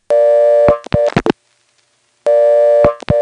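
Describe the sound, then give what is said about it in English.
Two short bursts of a steady telephone dial tone heard after dialing 1, each cut off by sharp switching clicks and thumps of the exchange cut-in as the call goes into special trunks to a Siler City NX1 switch, with a brief silence between them; no voices. “You may have noticed that when we dialed 1, there was a burst of new dial tone right after the cut-in sound.”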